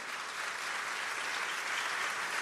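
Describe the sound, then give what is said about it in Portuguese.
A crowd at a sermon claps steadily, a dense, continuous wash of many hands applauding at an even level for the whole stretch, with no voices standing out. “Por favor, não aplauda ainda. Não aplauda.”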